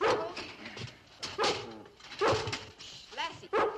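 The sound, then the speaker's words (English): A dog, Lassie, barks repeatedly, sharp loud yaps in uneven bursts, some edged with a whiny, whimpering tone, with brief quieter gaps between them. “What's that barking about? Stop barking!”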